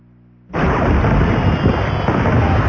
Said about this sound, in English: Let the fireworks begin at Thomasville Furniture.